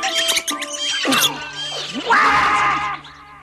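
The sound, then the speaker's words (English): Animals chatter excitedly in a busy tangle of high squeaks, chirps and rising and falling squeals that overlap for about three seconds, loud throughout before trailing off at the end. “The animals chatter excitedly.”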